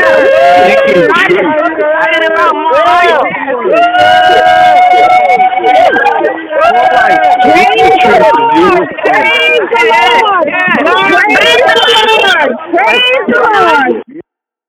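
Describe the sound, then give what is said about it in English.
A loud, continuous jumble of many callers cheering, whooping and shouting at once over tinny, band-limited phone lines as the lines are unmuted on a call-in, with rising and falling yells overlapping for about fourteen seconds before cutting off abruptly. “I want to know, are you guys excited about having more light in your life? If you are, let me hear you into the phone as I unmute the lines right now.”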